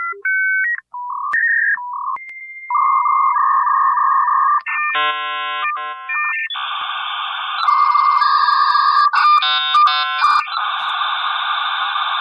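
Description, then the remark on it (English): A computer's dial-up modem connecting over the phone line: quick dialing tones, then steady beeps and warbling pitches, building into loud hissing, screeching handshake noise. Clear, with no voices. “And it made that sweet dial-up sound.”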